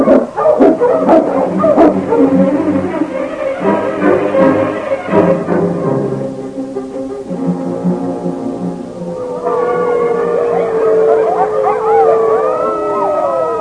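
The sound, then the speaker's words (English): A pack of wolves following a man's sled howls loudly, long wavering cries overlapping one another, swelling into a dense pack of rising and falling voices toward the end. “Their teeth bared, giving voice to the terrifying cry that meant but one thing, death.”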